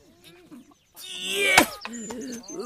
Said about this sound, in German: Und die Hühner pickten fleißig nach Regenwürmern.